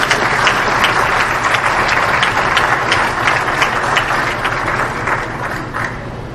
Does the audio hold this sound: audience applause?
yes